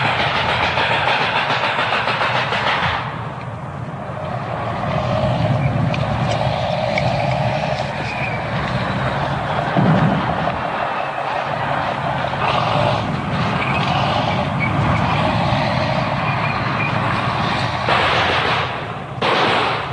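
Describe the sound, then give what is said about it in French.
Soviet tanks roll past in the street behind the Hotel Duna, between the hotel and the Danube, about thirty metres from the recorder, with a loud, unbroken roar of engines and clattering, clanking tracks that barely eases for twenty seconds. No voices are heard. “derrière l'hôtel Duna, entre l'hôtel Duna et le Danube, voici les chars russes qui passent. Ils sont environ à une trentaine de mètres de moi.”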